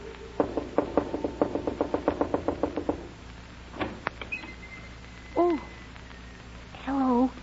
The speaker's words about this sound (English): Whatever do you mean by knocking on my door when the sign plainly says, Absolutely no knocking until after 9 o'clock daylight saving moon time.